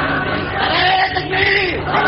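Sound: crowd chanting slogans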